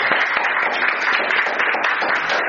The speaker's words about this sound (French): un témoignage aussi beau que celui de notre frère Stéphane Royer, que nous applaudissons de tout notre cœur au nom du Seigneur Jésus-Christ.